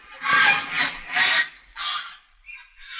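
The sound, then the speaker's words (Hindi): A flying bird gives a series of loud, harsh honking calls, about four or five bursts in quick succession, then a couple of fainter, thinner calls trailing off, with no talking. “वो देखे राजा साहब, चिड़िया उड़ रही है।”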